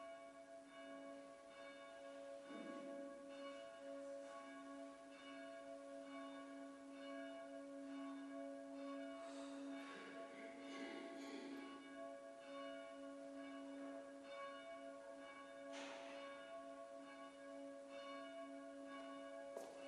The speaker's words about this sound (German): In Erinnerung an sein Leben als Kraftquelle für die Angehörigen entzünde ich ein Licht an der Auferstehungskerze und wir hören die Glocke unserer Stadtkirche.